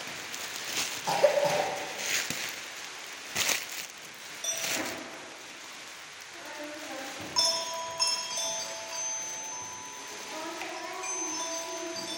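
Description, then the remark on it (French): Dry leaves crunch underfoot in a forest, with several uneven, crackly steps in the first few seconds, then softer rustling under faint, steady high-pitched tones. “Me voilà arrivé dans la forêt. Les feuilles craquent quand je marche.”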